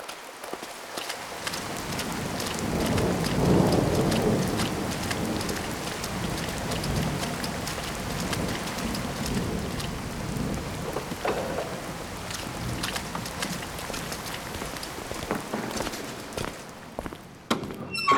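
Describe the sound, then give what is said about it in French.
Heavy rain pours steadily in a thunderstorm, with a deep rumble of thunder swelling early on and fading into the constant hiss and patter of downpour; no one speaks. “Ah, fichu orage!”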